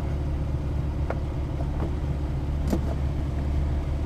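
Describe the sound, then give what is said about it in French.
A small airplane engine idles on the ground while warming up, in a steady, low rumbling drone that holds throughout, with a couple of faint clicks and no voices. “Hop, donc là, notre moteur commence à être chaud.”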